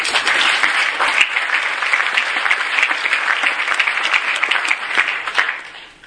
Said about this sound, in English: And that is wonderful, and I think we should applaud.